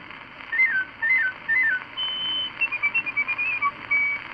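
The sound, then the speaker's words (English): A piccolo plays a high, bird-like warble: three short rising-and-falling phrases, then a quick run of chirping staccato notes ending on a held tone, over a faint steady hiss. “The bird-like warble of the piccolo.”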